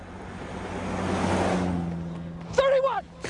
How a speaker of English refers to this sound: There was the car. I was ahead of the car.